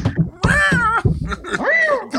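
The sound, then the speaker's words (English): A cat meows twice, a drawn-out wavering cry followed by a shorter rising-and-falling one, loud and clear with no talking over them. “I gotta get the cat.”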